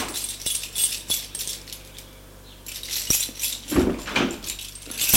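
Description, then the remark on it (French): A door opening as a woman's husband comes home, with bright metallic jingling and rattling like keys or a latch, followed by a couple of louder clunks and a rustling sweep. No one speaks. “Elle entend la porte s'ouvrir.”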